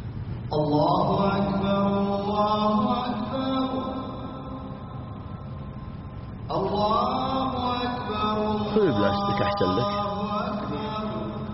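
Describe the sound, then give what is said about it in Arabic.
A lone male voice chants the Islamic call to prayer (adhan) in Arabic, heard during a pause in a religious talk: two long sustained melodic phrases with stacked harmonics, separated by a brief breath, ending in ornamented wavering pitch. “نستمع إلى الأذان ثم نكمل.”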